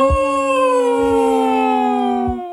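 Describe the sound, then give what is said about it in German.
A person howls along with a dog, which howls loudly after hearing a car arrive, in one long, steady, loud howl lasting over two seconds, its pitch sliding slightly lower before it stops abruptly. “Ich habe jetzt mitgejault.”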